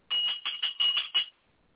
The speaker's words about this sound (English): But the bell's whack.